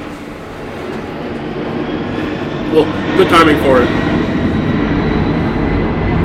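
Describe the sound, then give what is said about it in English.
A deep, steady roar of a large airplane on an international flight passing overhead fills the background, swelling slightly midway while a person speaks briefly over it. “Yeah, just every now and then we get a really big airplane fly over.”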